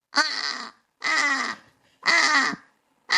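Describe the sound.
A person imitates a British crow's caw, giving three long, loud, harsh calls evenly spaced about a second apart, with a fourth starting at the end. No other talking is heard.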